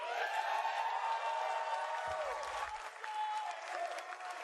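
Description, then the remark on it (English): A large audience at an Avengers video game presentation cheers and applauds loudly without a break, a dense roar of clapping and shouting voices with some high whoops rising above it. “But before we go, the crowd is riled up.”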